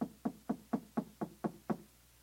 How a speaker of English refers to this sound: There's going to be a knock on the door.